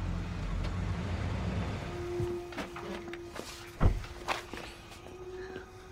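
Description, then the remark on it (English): A car engine rumbles low and steady, then settles to a faint hum as it comes to a stop, followed by a few sharp clunks and scattered footsteps. “They hear a car pull up.”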